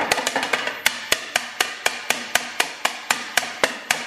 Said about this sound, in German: Und Achtung, jetzt wird es auch gleich nochmal laut. Ich muss jetzt klopfen. Da ist nämlich eine Blase zu sehen.